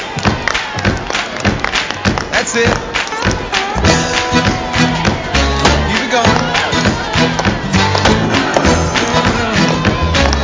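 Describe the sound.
A group of VBS (vacation Bible school) children stomp their feet and clap together in a loud, steady, rhythmic racket, while an adult voice briefly calls out encouragement over the noise.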